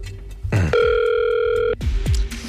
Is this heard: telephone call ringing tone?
yes